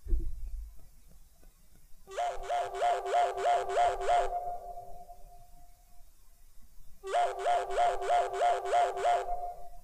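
A loud electronic phone ringtone for calls from probation and parole, mimicking a police siren: two bursts of rapid, wobbling high-pitched whoops, each about seven pulses, trailing into a steady tone, with a pause between bursts.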